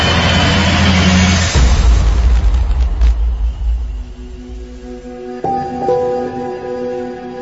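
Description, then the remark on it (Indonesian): A car engine rumbles loudly, then the low drone gradually fades as the car drives away from a tent, leaving a quieter hum with a steady tonal whine near the end. No one speaks. “kami pun berhasil sampai ke mobil. Dan langsung pergi meninggalkan tenda itu.”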